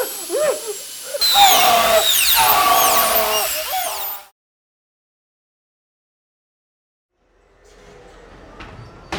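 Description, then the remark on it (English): A loud, high-pitched drill whirs steadily for about three seconds, its pitch wavering and sweeping, then cuts off abruptly into silence before faint clattering and mechanical noises return. “Give it power and set the drill press at 5.5 inches.”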